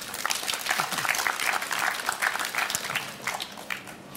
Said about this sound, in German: Ihr Applaus bitte für meine Gäste Ivan Krastev und Stephen Holmes.